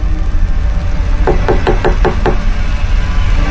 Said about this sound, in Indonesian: di balik suara ketukan itu, tiba-tiba terdengar sebuah suara